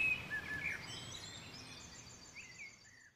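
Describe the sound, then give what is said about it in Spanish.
A sandpiper calls with thin, high whistled notes, a short burst at the start and another pair near the end, faint against a steady outdoor hiss with no voices. “Qué grande el andarríos este, ¿no?”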